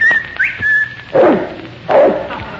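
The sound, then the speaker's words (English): A sharp, steady human whistle with a quick upward flick, held about a second, calling a dog named Kelowna, followed by two loud, deep dog barks. “I'll whistle for Kelowna.”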